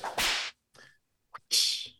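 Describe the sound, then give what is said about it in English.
Two sharp whip cracks, each a loud hissing swish that snaps and trails off, separated by a pause with a faint rattle and a brief click between them. No voices. “I got the whip. The whip's here.”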